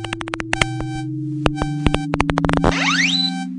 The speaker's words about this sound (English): The beeping screen and waggling finger of the lie detector, a scientific forensic frisking to check whether emotions match language.